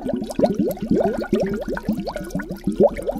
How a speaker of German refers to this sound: Wir haben halt eine Flasche und dann halt eine große Glasvase, dann halt Wasser reingemacht und dann hat es halt auch geblubbert.